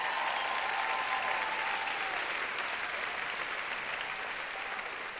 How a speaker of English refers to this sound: Somebody clap if you believe that.